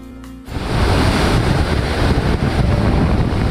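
Sea waves crash and wash onto the shore in a steady, loud roar of surf, with gusty wind buffeting the microphone; a brief tonal sound fades out just before the surf swells in.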